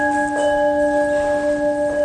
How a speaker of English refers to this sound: And then the last bell, Dave will show us, is standing up.